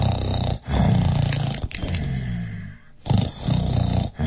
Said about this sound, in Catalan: Però n'hi havia tants de diners que el gegant no va poder acabar de comptar-los i es va quedar ben adormit. I feia uns roncs que tot el castell tremolava.